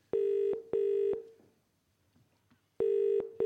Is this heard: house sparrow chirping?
no